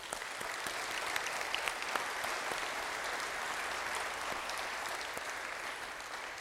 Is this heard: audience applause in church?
yes